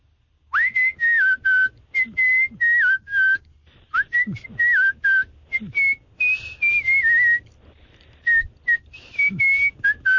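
A person whistles a melody up close, a steady string of clear, sustained notes in short phrases with brief breaths between them, shifting pitch as the tune moves along. No one speaks.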